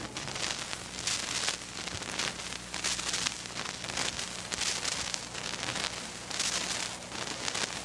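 Ripples of applause from a crowd assembled in the west stand of the University of Illinois Stadium, a dense crackle of clapping that swells and fades in several waves, steady and moderately loud throughout, with no voices standing out.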